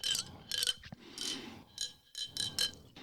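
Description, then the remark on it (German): The closure of a modern lemonade bottle rattles and clicks in several short, bright bursts with brief pauses between them, a dry, irregular clattering that comes and goes with no voices. “Also den Verschluss check ich noch nicht so ganz, warum. Damit es schön klappert.”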